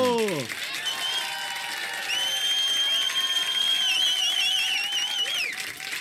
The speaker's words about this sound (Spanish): ¡Fuerte el aplauso!